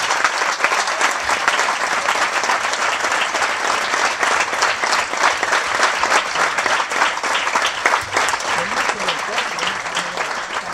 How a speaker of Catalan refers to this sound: Doncs jo crec que aquesta feina mereix un aplaudiment per l'altra.